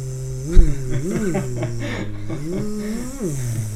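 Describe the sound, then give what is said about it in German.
A voice hums a steady, nasal buzz that swoops up and down in pitch, imitating a fly zipping around, sustained for several seconds with a brief sharp burst near the start. “Aber Fliegen, die machen halt ein krasses Geräusch.”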